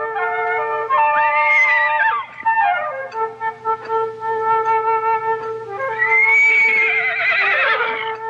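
A young horse in a ranch corral early in the morning whinnies loudly, two long, shrill, wavering neighs separated by a few seconds of quieter snorting and breathy sounds, with faint hoof movement underneath as it stomps the ground.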